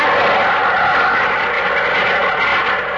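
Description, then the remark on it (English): A small propeller training plane, called a hornet plane, drones overhead at an airfield used for training and testing planes, its engine giving a steady, loud, buzzing hum that holds level for a few seconds with no voices. “Ooh, here comes that little hornet plane again.”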